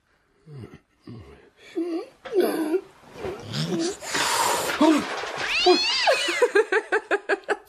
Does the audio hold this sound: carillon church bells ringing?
no